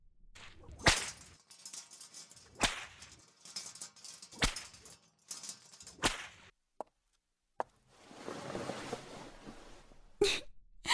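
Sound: whip lashing strikes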